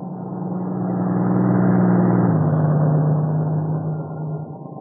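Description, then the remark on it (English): A truck from the plant at Maywood drives past with a low, rumbling engine drone that swells to its loudest mid-way, then drops slightly in pitch as it moves off. No one speaks. “If it's one of the trucks from the plant at Maywood, I'll be able to tell in a minute.”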